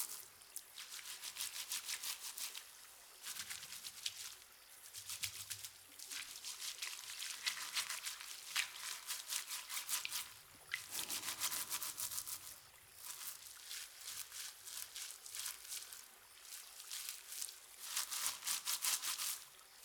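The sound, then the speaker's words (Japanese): Steady brush scrubbing: bristly back-and-forth strokes repeating in a brisk rhythm for the whole stretch, with brief pauses between bursts and no voices. “ゴシゴシゴシゴシ。”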